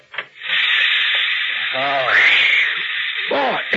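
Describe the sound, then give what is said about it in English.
Steam hisses loudly and steadily in a steam room, a continuous rush that starts almost at once and never lets up, while voices speak briefly beneath it. “They've got a good steam room here.”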